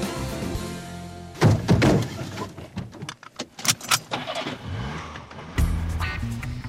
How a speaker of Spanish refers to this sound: cada día cierra la maleta con más fuerza, el maletero del coche también cada vez con más fuerza, aunque en este caso no. Metemos las maletas en el maletero del coche para ir al aeropuerto.